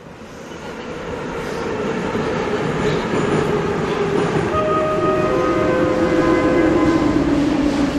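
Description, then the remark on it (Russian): A Moscow metro train car rumbles steadily as it pulls into Park Pobedy station, the roar building slightly, then a thin high whine rises near the end as it slows. No one speaks. “Станция «Парк Победы», объявил приятный женский голос где-то под потолком вагон.”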